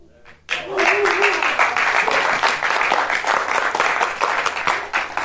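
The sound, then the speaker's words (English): An audience bursts into loud, dense applause after a brief quiet moment, the many overlapping claps holding steady for several seconds with a faint voice briefly audible early on. “Don't clap me.”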